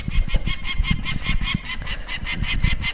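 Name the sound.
peregrine falcon call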